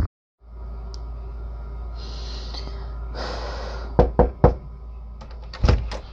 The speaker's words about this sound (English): Just knock on the damn door.